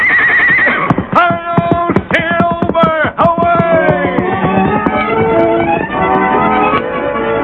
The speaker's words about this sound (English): The big horse seemed to know what was expected, and his nostrils quivered in eagerness to be off and away, carrying the masked man to new adventure. There you are, Silver.